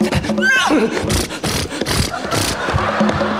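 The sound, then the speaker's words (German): A horse lets out a short, rising-and-falling whinny near the start, surrounded by loud, busy clattering and rumbling noise that continues steadily to the end. “Und der Kutscher beeilt sich! Und die Pferde beeilen sich.”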